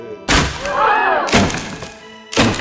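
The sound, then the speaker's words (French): A heavy wooden bench, with people still sitting on it, slams into the wooden door of a holy place three times, about a second apart, each blow a loud, hollow thud with a rattling crack. A faint creaking whine follows the first strike. “C'est une bonne idée de vouloir défoncer la porte avec un banc, mais tu ne crois pas que tu aurais mieux fait d'enlever les gens assis dessus, d'abord?”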